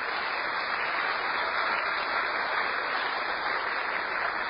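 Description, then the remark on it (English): Steady, dense applause from a crowd, given as a round of applause to the vegetables. A continuous crackle of many hands clapping at an even level for several seconds with no voices over it. “Now, round of applause to the vegetables.”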